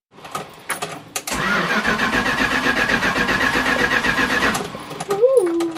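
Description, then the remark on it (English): The hard-to-start engine of an old 1974 vehicle cranks with a few short bursts, then catches and runs in a steady, rough idle for several seconds before a rising whine near the end. “It was rotten beyond, but it had a really good engine. But it remains an engine that's difficult to start.”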